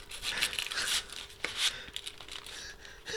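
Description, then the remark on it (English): Crinkly, papery rustling and rubbing of a wrapped chocolate bar being pulled out of a purse, with quick scratchy bursts and a few sharper crackles over about three seconds, no voices. “She pulls out a bar of chocolate from her purse.”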